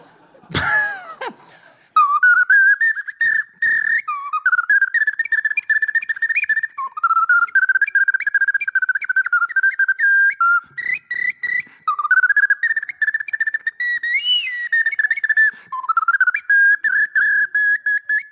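After a brief breathy burst, a clay ocarina plays a lively melody alone, its pure, hollow mid-high notes moving in short repeated phrases with small pauses between them, fairly loud throughout.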